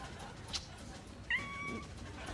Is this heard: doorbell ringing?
no